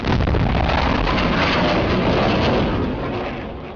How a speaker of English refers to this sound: Noisy sonic booms were a drawback for Concorde, the first supersonic passenger-carrying commercial airplane.